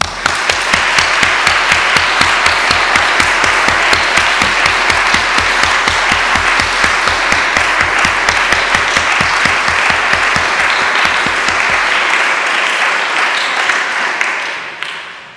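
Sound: audience applauding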